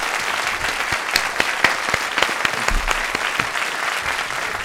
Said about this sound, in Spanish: Un aplauso para los dos, por favor, bienvenidos.